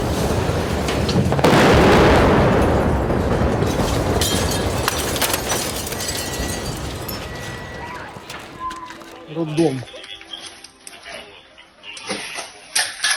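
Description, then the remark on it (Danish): A deep, rumbling roar of heavy Russian artillery fire in the war in Ukraine swells loudly in the first few seconds, then fades into scattered booms and crackling bursts with voices murmuring faintly underneath. “Det er den her nye fase i krigen, hvor russerne føler sig foranlediget til, eller tvunget til, eller kaldet til at bruge deres enorme ildkraft uden større hensyntagen til, hvem der kommer i vejen.”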